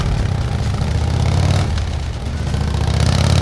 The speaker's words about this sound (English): The gang members got on their motorcycles and started driving off even before the earthquake stopped shaking everything.